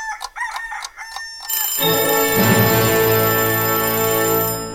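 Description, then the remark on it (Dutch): A telephone rings loudly with a few quick repeated tones, then a long, rich, crowing-like sustained tone, as a call is placed to the Bakkerij van den Berg bakery. No one speaks. “Ik weet niet of ze die ook maken bij de bakkerij die ik, als het goed is, zo aan de telefoon heb.”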